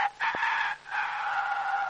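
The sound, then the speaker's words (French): A person imitates a rooster's crow with the voice, a loud, drawn-out cock-a-doodle-doo broken by a brief catch before the long final wail, one of a series of animal-cry imitations from a visit to the Jardin des Plantes, the rooster answering a hen. “Son petit mari lui répond.”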